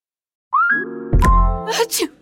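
A single loud sneeze: a drawn-out, rising voiced intake of breath, then a sharp explosive burst followed by a breathy, hissing release. No one speaks.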